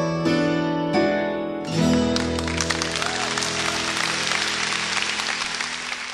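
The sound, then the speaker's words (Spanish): A sustained tonal note from music or voice fades out, and a loud, dense wash of audience clapping for the performing artist, their maestro, takes over and continues steadily to the end. “Supera ese aplauso por 10-1 todavía.”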